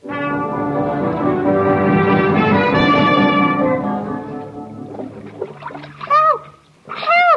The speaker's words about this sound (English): The following day, the ship hits a rock and we find the Robinson family struggling in the water.